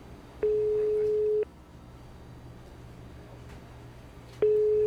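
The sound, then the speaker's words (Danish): A telephone ringback tone on an outgoing call to the caller's mother, made from the toilet of a Circle K in Kolding on a phone with 3% battery: a steady mid-pitched beep lasting about a second, a long quiet gap, then the next beep starting, over faint line hum. “Og der går jeg ud på toilettet og ringer efter min mor.”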